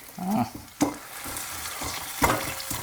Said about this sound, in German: So, ich mörser jetzt M&M's. Das wird auch richtig schön laut.